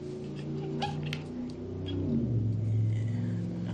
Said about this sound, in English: Loud cars. Why are they so loud?